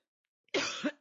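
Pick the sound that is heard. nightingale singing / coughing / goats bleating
coughing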